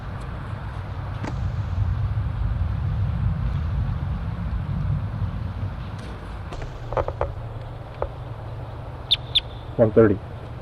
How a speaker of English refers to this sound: In response to wild birds coming around the parking lot area.